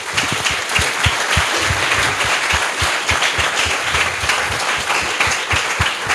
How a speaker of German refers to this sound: Und auch ja, einen herzlichen Applaus. Bitte.